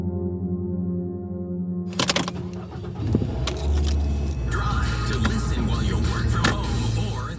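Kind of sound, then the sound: vehicle, car running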